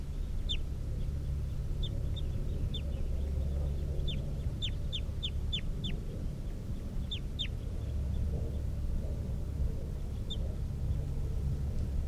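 A very weak recording of bird number 327: faint, high-pitched bird chirps come in short irregular bursts, sometimes several in quick succession, over a steady low rumbling hum that fills the background.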